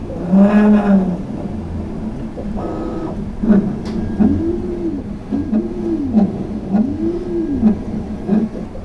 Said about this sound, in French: On entend une buse d'impression 3D qui est en train d'imprimer des pièces. Une imprimante 3D, c'est une machine qui va ajouter de la matière pour reconstruire un volume en 3 dimensions afin d'obtenir une pièce.